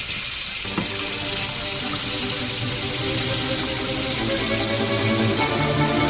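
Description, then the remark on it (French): Water of the Dourbie river, rising during a thunderstorm, roars in a steady, dense wash of cascading noise, loud and unbroken for the whole stretch, with no voices. “L'eau de la rivière se mit à monter dans un bruit assourdissant de cascades.”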